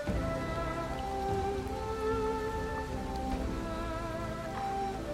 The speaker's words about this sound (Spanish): Contemplas la lluvia cayendo. Observas las luces de los coches, reflejadas en los charcos del asfalto.